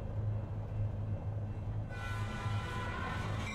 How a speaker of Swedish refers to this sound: Jag vaknar av att tåget bromsar in.